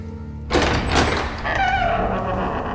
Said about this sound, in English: Open the damn door.